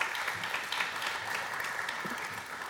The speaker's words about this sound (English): Well, thank you all very much. Let's give them a round of applause for coming up here.